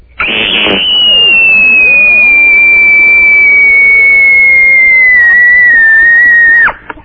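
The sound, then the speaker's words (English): A contestant's scream in a radio scream-off contest: a single piercing, very high-pitched human scream held for about six seconds, loud and steady, its pitch sliding gradually lower before it cuts off abruptly. “What a scream that was.”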